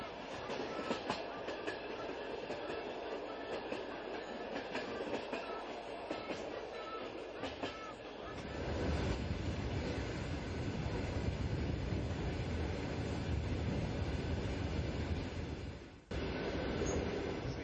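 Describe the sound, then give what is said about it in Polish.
A platzkart carriage of a Trans-Siberian Railway train rattles along the rails in a steady, loud roar, with sharp clicks early on, then a deeper rumble swelling in and briefly dropping out before resuming. “Znajdujemy się w wagonach noszących bardzo znamienitą nazwę Plackartne.”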